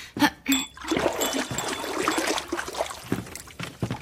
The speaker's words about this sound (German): befeuchte deine Finger etwas in der Wasserschale.